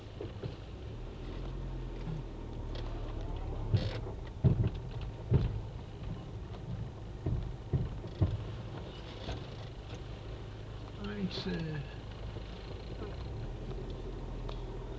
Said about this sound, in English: What's that knocking noise you're getting from under the vehicle? It's when I was reversing.